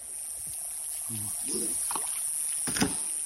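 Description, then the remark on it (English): Oars dip and splash through river water in a few uneven strokes as a boat is rowed, over a steady hiss of flowing water, with a brief murmur of voices in the background. “Every few minutes we stop rowing the boat”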